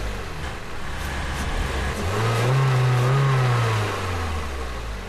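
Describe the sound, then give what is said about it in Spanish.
A car engine, push-started by a man pushing while others ride inside, catches and revs up loudly, its pitch climbing and holding for about a second before easing back down, with steady rumbling road noise throughout and no talking. “Ustedes súbase, yo empujo y aquel que mire que no vengan carros.”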